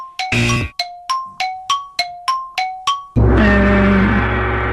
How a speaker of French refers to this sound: Le gong est arrivé.